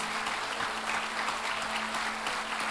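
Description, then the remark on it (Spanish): Loud, sustained applause from a church audience, a dense wash of clapping that holds steady for a few seconds with no voices standing out above it. “Fuertes aplausos.”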